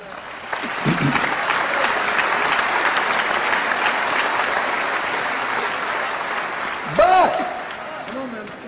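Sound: audience applause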